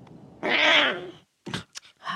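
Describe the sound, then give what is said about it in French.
A lion cub in The Lion King tries to roar loud enough to be heard from the top of the cliff: a small, raspy roar, more like a strained cat-like yowl, lasting under a second, followed by a few short, breathy bursts. “Il a refusé de s'en aller tant que son rugissement n'était pas perceptible du haut de la falaise”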